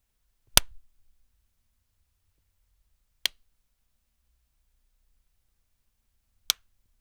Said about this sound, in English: I record from inside an acoustic blanket booth with a Neat King B2 microphone and a Motu M2 audio interface. To start things off, here are some claps.